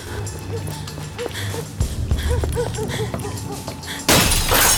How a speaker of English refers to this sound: Throwing the gnome through a glass panel in the door, she reaches in to open it.